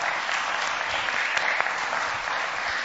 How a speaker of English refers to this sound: And I think that it's really easy to get caught up in the big lights of Winter Wonderland or Oxford Street or this incredible installation that took, I believe, three individuals 15 hours to make. So can we give them a quick round of applause?